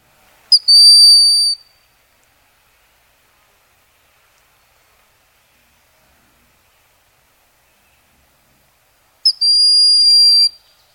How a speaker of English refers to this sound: let's just play for our listeners a little bit of what a broadwing hawk sounds like. This is from the Cornell Lab of Ornithology website, All About Birds. Let's hear a little.